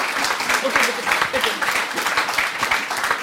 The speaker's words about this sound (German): Diesen Applaus kriegen Sie zu Recht und auch von mir.